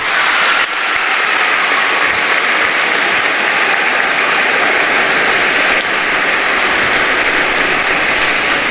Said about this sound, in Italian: E poi, ecco, l'applauso più grande a chi lo dobbiamo fare? A Gesù, perché Gesù ci ha fatto veramente sentire che Lui è vivo e presente. Dunque, un applauso a Gesù.